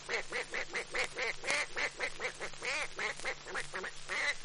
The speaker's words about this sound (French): Le canard.